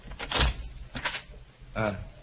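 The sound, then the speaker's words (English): An unlocked door of a large house is opened with a few short scraping, rattling bursts, the last drawing out into a brief creak, with a low hum underneath. “Now, let's try the door. It's not locked.”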